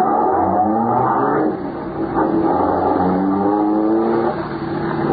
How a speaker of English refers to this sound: the first car, driven by a friend of Marola's, starts down the road.